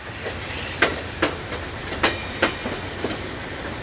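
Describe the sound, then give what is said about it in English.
Steady low rumble of an Amtrak passenger train on the Pennsylvania line, rolling along the tracks out of Pittsburgh, heard from inside a car, with a regular clickety-clack of wheel joints punctuating the hum at a moderate pace. “We rolled out of Pittsburgh about 30 minutes ago, and the train is still pretty quiet.”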